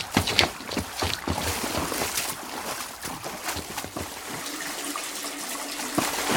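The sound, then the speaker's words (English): Water floods into a house, gushing and churning steadily and loudly, a continuous splashing rush with bubbling surges throughout and no voices; the water cannot be shut off. “I can't shut the water off.”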